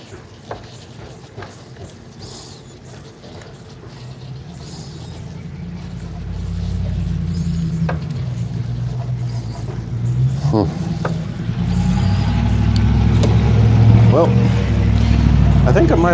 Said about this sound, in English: Boy, that's a noisy truck right there.